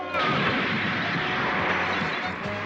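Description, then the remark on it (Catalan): Machine-gun fire from a soldier shooting at Goku as he flees across rooftops rattles loudly and continuously, a dense unbroken barrage that starts abruptly and keeps up at steady intensity for a few seconds amid a roaring wash of battle noise. “Un soldat metralla en Goku, que fuig per les teulades esquivant els trets.”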